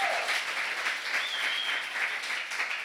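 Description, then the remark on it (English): Steady, dense applause from a church audience giving the Lord a round of applause during a sermon in English and Polish, a continuous wash of many hands clapping at an even, fairly loud level for the whole stretch, with no voices standing out. “give the Lord a huge round of applause.”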